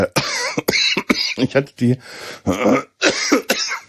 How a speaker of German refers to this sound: Entschuldigung, ich brauche einen Schluck. Was für eine scheiß Husterei.